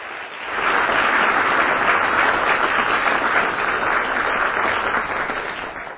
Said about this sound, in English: Now, brothers, I'm going to let you shake his hand. Yeah, you can applaud. That's fine.